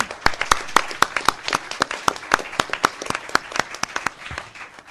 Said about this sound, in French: Donc merci beaucoup à eux. Je vous encourage à les applaudir chaleureusement.